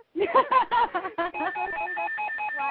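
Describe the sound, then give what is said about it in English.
A second phone's ringtone during a live radio show plays a quick melodic run of bright, harmonic tones, shifting into steady repeating electronic beeps, moderately loud and with no voices. “Yes, you pick up the caller while I get this phone away from me so it doesn't ring again.”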